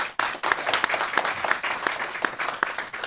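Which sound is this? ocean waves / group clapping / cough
group clapping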